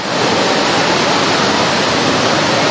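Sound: rain falling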